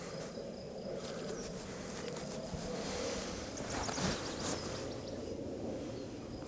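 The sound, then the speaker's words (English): A steady, low buzz of bees hums at the entrance of hive number one, with light activity as a couple of bees come and go, fairly even in level, with a thin high chirping of insects faintly in the background. “Coming up to hive number one. See light activity at the entrance. A couple bees coming and going.”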